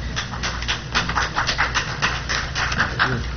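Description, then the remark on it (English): A big dog from the Humane Society pants in quick, steady, breathy bursts that repeat for several seconds over a low background hum, with no talking. “No, you just got a big dog.”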